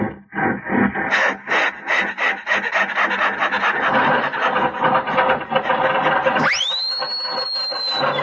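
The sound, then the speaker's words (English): An old Stutz Bearcat car engine cranks to life with a loud, rough, grinding rasp that chugs unevenly for several seconds, then breaks into a rising whine that settles into a steady, high-pitched squeal. “Listen to that bear cat motor.”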